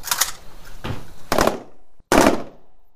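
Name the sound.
gunfire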